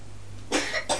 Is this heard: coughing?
yes